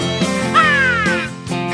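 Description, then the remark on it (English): A rooster crows once, a drawn-out, slightly falling call in the middle of a short stretch, over a steady tonal background with no talking. “Two bros yapping all wild while the rooster crows.”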